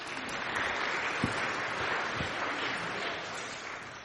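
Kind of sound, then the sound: crowd, audience applause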